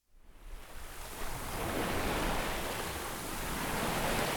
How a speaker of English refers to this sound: Ah, being out on the water. So peaceful, just the sounds of the water lapping the hull, the wind in the sails, the creaking of various thingamabobs.